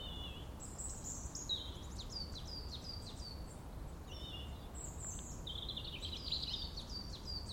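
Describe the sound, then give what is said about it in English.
Several birds sing and chirp almost continuously in overlapping bright phrases over a steady low outdoor rumble like wind or traffic, recorded at Clent Hills while walking back to the car park. No one is talking. “Just hear some wonderful birdsong.”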